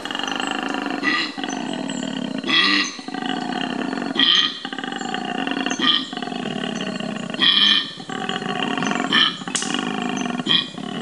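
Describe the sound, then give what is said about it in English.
A deep, rumbling animal bellow repeats in loud, roaring snorts, each burst rising and falling every second or two, powerful with no talking over it; the snort is an inhalation, made low-frequency by a special larynx that reverberates. “There's a grunt and then there's a snort. This, I think, is the snort.”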